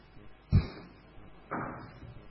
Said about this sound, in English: I'll wait till the door shuts. It's not shutting. You better shut. Open the door. Can you please? Please.